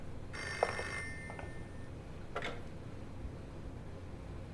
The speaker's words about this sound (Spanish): ¿Quién puede estar llamando a estas horas? Yo voy a abrir. Es que no hay nadie en esta casa para contestar el teléfono.